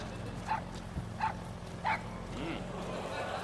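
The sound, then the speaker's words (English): A puppy in a video game set in Afghanistan gives three short, high-pitched yaps, spaced about a second apart, over a steady low background hum, then falls quiet. “What's a cute dog doing in the middle of Afghanistan? It's a puppy.”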